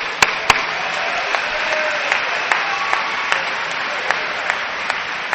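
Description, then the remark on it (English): An audience applauds the program chair steadily for several seconds, a dense wash of clapping with a few sharper individual claps popping out now and then; no one speaks. “Look, give it up, man. Give it up, man.”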